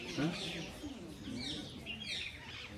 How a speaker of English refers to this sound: And you hear all the birds are singing, Brindadevi's parrots have come. That's all Brindadevi's parrots, they're talking.